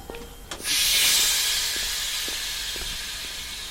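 A distant steam locomotive lets out a loud, continuous hiss of steam that bursts in after a brief pause and holds steady to the end, with a few faint clanks underneath.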